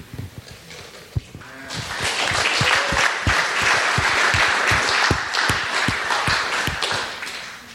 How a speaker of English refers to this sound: It's the most awkward thing, clapping with the mic.